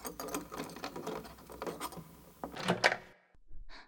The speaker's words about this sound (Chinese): 有人在开门，好像是我老公回来了